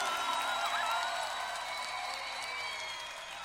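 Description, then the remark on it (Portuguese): An audience applauding Jesus in worship, a steady wash of clapping that holds fairly loud and even before easing slightly toward the end, with a faint murmur of voices beneath it. “E aplauda Jesus, o dono da tua vida.”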